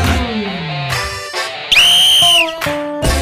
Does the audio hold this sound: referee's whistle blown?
yes